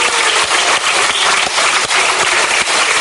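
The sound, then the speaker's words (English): A crowd at the first Pride of Burton Awards in Burton bursts into sustained applause for the winners, dense overlapping hand claps forming a steady loud wash of noise with occasional sharper individual claps standing out, no voices heard. “So please, let's have a massive round of applause for the winners of the first ever Pride of Burton Awards.”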